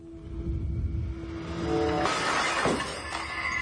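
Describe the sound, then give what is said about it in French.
Light bulbs shatter in a couple of bright, crackling bursts of breaking glass, the second sharper than the first, over a steady low hum with no voices. “Des choses se cassent. Mes ampoules, mais enfin, tout se casse ici, mais...”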